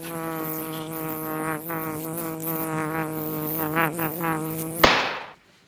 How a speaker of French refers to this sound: Putain de mouche ! Alors voilà, ça y est, l'hiver est terminé, l'été arrive doucement et elles sont de retour. Les mouches !